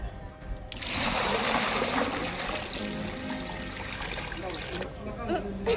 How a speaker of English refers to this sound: The morning that I was there, they were pumping water into it, and then people were taking water out.